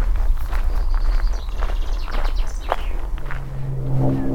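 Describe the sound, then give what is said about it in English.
Footsteps crunch steadily over a gravel path near the A4074 road in a regular walking rhythm, each step a short gritty scrape, while birds chirp high above and a low rumble hums underneath, with aeroplanes around. “Much more prominent is the bird song and the sound of the gravel that I'm walking on, and the planes.”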